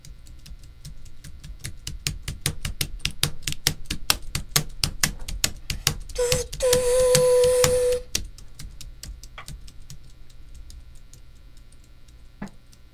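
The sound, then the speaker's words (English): Rapid, steady clacking of a non-working computer keyboard tapped to imitate a train, in a chugging rhythm like train wheels, briefly joined by a sustained whistle-like tone in the middle, then slowing to sparse taps. “Let's see what a keyboard sounds like imitating a train.”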